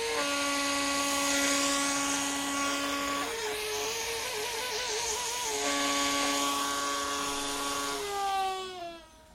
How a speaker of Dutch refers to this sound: Daarvoor heb ik een stukje PVC-buis met een ballonnetje bespannen. En in het ballonnetje zit een klein gaatje. Daar gaan we. Zuigfluit. De zuigfluit. Dit is de stofzuiger. En als je daar dan dit op zet.